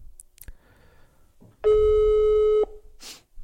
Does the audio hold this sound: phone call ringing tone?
yes